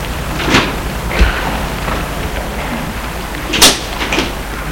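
A door is unlocked with a key, a master key, and opened: a few sharp clicks and a low thud, then a bright metallic clack and a softer rattle near the end, with no voices.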